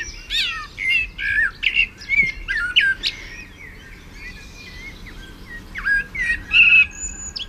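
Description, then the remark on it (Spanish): A young Canary blackbird learning to sing in laurel forest sings haltingly and slowly, clear whistled phrases and chirps coming in slow, uneven bursts with short pauses between them, over a faint background hum. “Pero este es un mirlo joven que está como torpe aprendiendo a cantar.”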